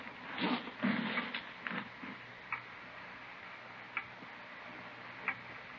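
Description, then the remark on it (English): A clock ticks with sharp, dry clicks against a low steady hiss, a cluster of louder knocks at the start, then isolated ticks spaced a second or so apart. “Clock, ain't it?”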